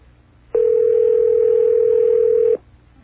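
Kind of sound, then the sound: signal or alarm, telephone line ringing tone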